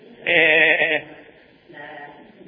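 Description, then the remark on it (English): A person imitates a goat, letting out one loud, quavering bleat, followed by a fainter, shorter bleat a moment later. “That was a goat.”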